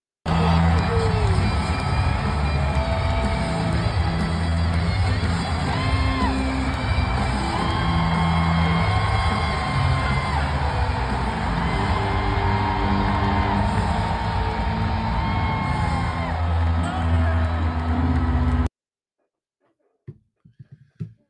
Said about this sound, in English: Best thing that I saw on this Sunday until the Preds blew a 3-1 lead was Will Levis and Lloyd Cushenberry getting the crowd hype before game four.